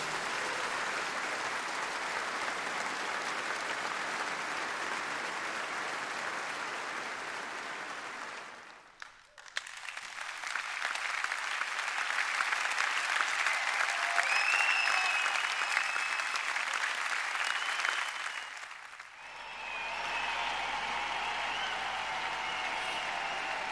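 Three stretches of dense concert audience applause follow one another, each a steady wash of many hands clapping, separated by brief dips; the middle stretch, from a concert by the interviewed artist, carries a few faint whistles, while the other two come from other artists' concerts.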